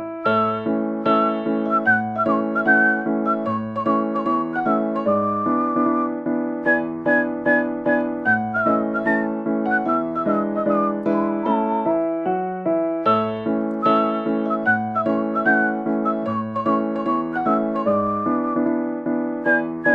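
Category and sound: human body sound, human whistling a tune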